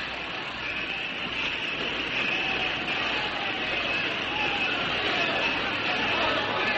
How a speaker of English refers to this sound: Such a great crowd of people. They are here to welcome you, Madame.